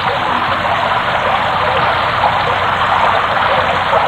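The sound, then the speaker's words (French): Steady, dense rain pours down without a break, a loud continuous hiss that fills the whole stretch with no voices or other distinct sounds standing out. “Il se dit que la pluie cachait le bruit de la bagarre.”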